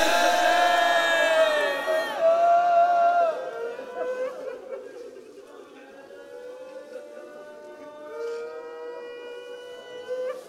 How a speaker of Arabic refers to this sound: هو يبكي يا جماعة، أنتم قاعدين وتبكون ترضى واحد الآن يقومك من الماتم ويقطع عليك الدمعة؟